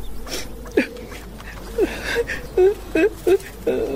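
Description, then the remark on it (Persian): A woman cries in short, broken whimpering sobs, several high wavering bursts with small gaps between them, moderately loud. “چی گپ شده؟ چرا گریه میکنی؟”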